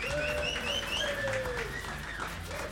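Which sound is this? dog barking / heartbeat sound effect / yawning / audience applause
audience applause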